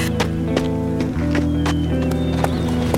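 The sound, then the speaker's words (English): Horse hooves thud in a steady, quick rhythm, fairly loud, as a rider urges his horse into a gallop, over a sustained droning musical background with no talking. “Realizing at once it was Rebecca, he urged his horse into a gallop and closed the gap between them in a few seconds.”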